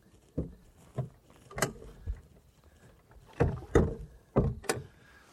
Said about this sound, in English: Whew! All right, I am... Hot damn. I'm on a boat. Have myself a nice little sit down and I'm floating.